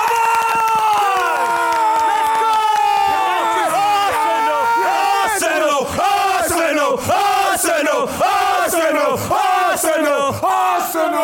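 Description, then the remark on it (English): A loud crowd cheers and yells together in a sustained roar, with sharp bursts of clapping breaking through in the second half. “I would like to let the whole of Filthy Fellas know, especially after the people that abused me after the Wolves game, we are the champions. Round of applause!”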